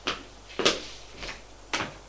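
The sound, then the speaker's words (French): A bedroom door being opened: four short clicking, rattling knocks of the handle and latch, irregularly spaced and moderately loud, over a faint low hum with no one speaking. “Il ouvre la porte.”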